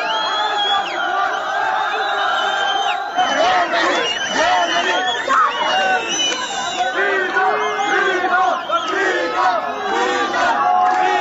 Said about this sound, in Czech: Izbjeglice su ispred stanice mahale voznim kartama i uzvikivale "Pustite nas, Nemačka i sloboda".